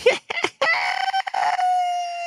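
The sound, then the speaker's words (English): A man's voice imitates a guinea pig's squeak: a few choppy, wavering bursts build into one long, sustained high-pitched squeal, loud with no other sound. “Not the first time he imitated one of the guinea pig sounds.”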